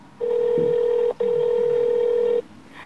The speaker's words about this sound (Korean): 일단 자동차 보험회사에 전화를 걸어 도움을 청하기로 하고 보험회사에 전화를 합니다.